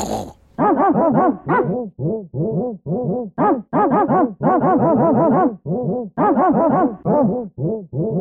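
A dog growls and barks in a rapid, unbroken string of loud, high-pitched bursts lasting several seconds, with no talking.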